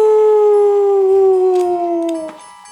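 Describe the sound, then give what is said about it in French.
A single long howl from a human voice imitating a wolf, loud, holding one sustained tone that slowly slides downward before cutting off abruptly near the end. “Loup-Goulou n'est pas content. Il hurle à la galette lune.”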